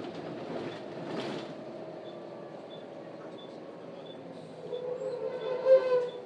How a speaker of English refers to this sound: That was just a little bit of braking, not really a lot. Was stopping at a bus stop.